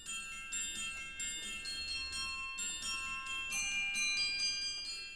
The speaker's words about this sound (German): Doch gerade als Schikaneder jetzt im Spiel eine Pause macht, spielt Mozart auf dem Glockenspiel.